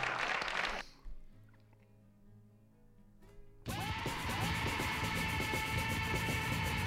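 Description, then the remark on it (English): Four people clap together in a steady, fairly loud patter that bursts in after a brief quiet, hum-filled pause and keeps going to the end. “There's four people clapping.”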